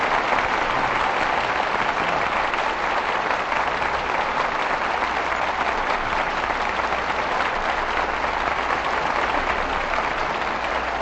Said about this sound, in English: Your applause calls tonight's stars back to the footlights. Here they are for a curtain call.